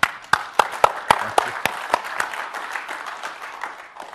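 An audience breaks into applause, a few sharp, prominent claps up front blending into a steady wash of many hands clapping that gradually thins out toward the end.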